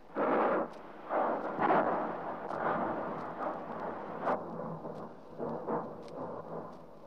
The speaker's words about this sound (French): L'Etna, le plus grand volcan actif d'Europe, entre en éruption le 30 janvier. Au milieu des explosions et des laves incandescentes, c'est la désolation qui s'abat une fois de plus sur une région trop souvent sinistrée.